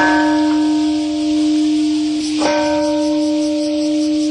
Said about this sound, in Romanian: La ora 8:15 a fost păstrat un moment de reculegere în amintirea celor peste 140.000 de victime ale atacului, iar sunetul unui clopot le-a amintit oamenilor tragedia.